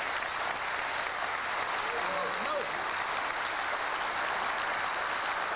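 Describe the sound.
An audience applauds the dedicated young men and women who gave their time and resources so the information can come to listeners, steadily throughout, a dense, even wash of many hands clapping at constant loudness, with a faint brief voice or whoop rising briefly in the middle.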